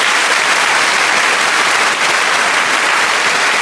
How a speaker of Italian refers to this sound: Basta applausi. Cioè, se no si gasa l'ospite.